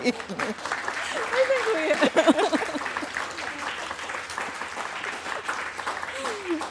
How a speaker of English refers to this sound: I think we should clap. I like that. We can't clap for ourselves, but we could encourage you guys to clap.